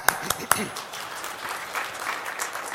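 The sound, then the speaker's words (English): An audience at an ASHRAE meeting breaks into applause for attendees who came of their own accord: a few sharp early claps give way to a steady wash of many hands clapping at a moderate level, with no talking over it. “Let's applaud those as well.”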